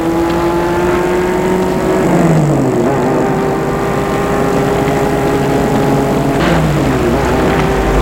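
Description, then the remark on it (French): Maurice's car starts up and drives toward a woman, its engine running loud throughout, accelerating with its pitch climbing and then dropping at two gear changes. No one speaks. “Elle entend derrière elle la voiture de Maurice qui s'est mise en route et roule vers elle.”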